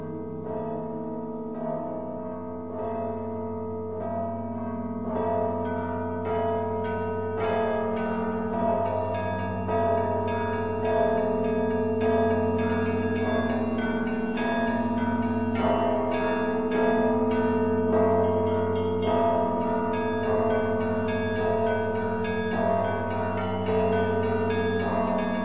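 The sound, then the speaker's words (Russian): The festive peal of the Svyato-Danilov Monastery bells rings continuously, a dense peal of many bells with rapid overlapping strikes over a deep sustained hum, loud and rich throughout with no voices. “Вот сейчас мы послушаем с вами звон Свято-Данилова монастыря, праздничный звон.”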